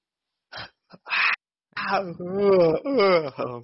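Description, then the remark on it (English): A person imitates a scream: a few sharp breathy gasps, then a loud, wavering, drawn-out vocal wail that rises and falls for a couple of seconds. “That makes me want to scream like the mother from the beginning of this movie.”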